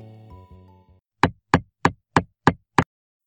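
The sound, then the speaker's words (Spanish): A hammer strikes six times in a quick, steady rhythm, each blow a sharp, loud, short crack. The strikes follow the fading end of a sustained bowed violin tone. “En efecto, eso es un martillo.”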